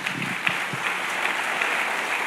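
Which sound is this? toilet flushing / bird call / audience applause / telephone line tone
audience applause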